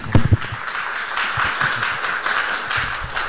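A church audience applauds the praise team together, a dense, steady wash of many hands clapping with a few sharper, louder claps at the start, holding at an even level throughout.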